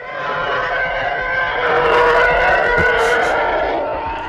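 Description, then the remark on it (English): A Star Wars TIE Fighter engine screech: one loud, sustained howling roar with wavering, siren-like tones that swells toward the middle and eases off slightly at the end, with no talking. “No, it's not Formula 1, it's TIE Fighters from Star Wars.”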